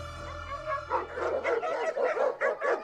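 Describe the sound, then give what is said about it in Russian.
A dog barks in a quick run of about six short, high-pitched yaps, preceded by a brief whine, fairly loud with no one talking. “Владимир Петрович представляет широкой публике двухголовую собаку.”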